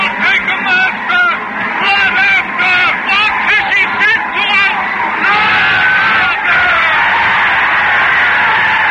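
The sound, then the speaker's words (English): A dense crowd in a town square shouts and yells all at once, many voices rising and falling in an excited, continuous roar that stays loud throughout, with shrill cries standing out. “The whole square is whirling and turning and shouting.”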